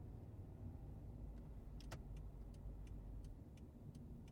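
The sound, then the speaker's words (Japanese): Steady low rumble of a car driving onto a highway amid heavier traffic than usual, heard from inside the cabin, with a string of faint, light clicks ticking over the engine and tire noise. No one speaks. “ここから高速道路に乗るんだね。いつもより車多いよね。”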